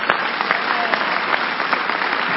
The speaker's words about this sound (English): Clap for the book.